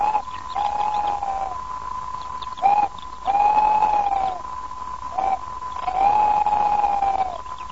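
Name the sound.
owl hooting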